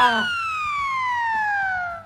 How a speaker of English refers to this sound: So this is a ledge. You fall off the platform, either off the edge or in the pit. I love this sound.